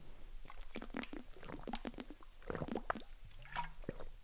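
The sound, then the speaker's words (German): Wet gulping and swallowing sounds with small liquid squishes and clicks, as someone takes a few quick sips of a drink. No talking. “Ich muss noch kurz einen Schluck trinken.”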